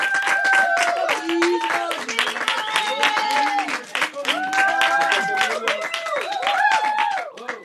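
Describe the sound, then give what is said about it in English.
A large theater audience claps loudly and continuously after Mr. Chameleon's act, with sharp whistles and excited cheering voices rising over the dense applause throughout. “Chameleon was done, the theater started buzzing again, but this time it buzzed with loud clapping and whistling.”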